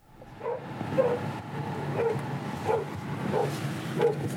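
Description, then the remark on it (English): Dogs at a farm bark to greet arriving visitors in a loose, irregular series of about half a dozen sharp woofs, moderately loud, over a low background rumble with no talking. “Here we are at the farm, and the dogs are here to greet us.”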